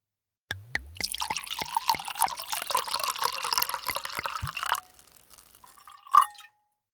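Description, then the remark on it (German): Wine glugs steadily from a bottle into a glass for about four seconds, a bubbly pour that stops, followed by a soft clink of glass near the end. No voices. “Oder noch besser, schenk dir doch einfach ein Glas ein, wenn das möglich ist.”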